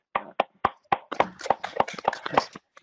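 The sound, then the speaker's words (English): A brief round of applause: sharp, steady hand claps at an even, fairly quick rhythm, about ten in a few seconds, moderately loud with a bit of murmur between them. “I wanted to give you another round of applause if everyone could.”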